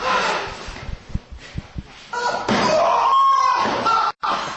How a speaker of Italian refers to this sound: Violenza. Due che stanno fornicando in maniera violenta allegramente nell'anno. In realtà ci sono delle percosse e anche abbastanza violente.